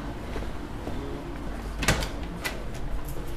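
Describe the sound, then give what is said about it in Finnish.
The door of a light lock, a two-door entrance to a windowless spectroscopy laboratory, clunks open with a sharp click, followed by a couple of softer mechanical knocks over a steady low hum with no talking. “Minkä takia tässä on 2 ovea? Tämä on valosulku.”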